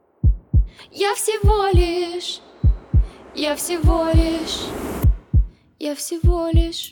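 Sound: heartbeat growing clearer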